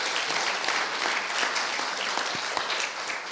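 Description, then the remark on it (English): A crowd applauds the worship team steadily, many hands clapping in a dense, even patter for a few seconds without pause or voices. “Can we give a round of applause to our worship team just for leading us every week?”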